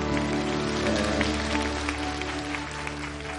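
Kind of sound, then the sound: crowd, audience applauding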